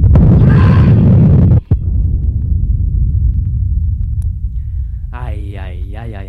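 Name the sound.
explosions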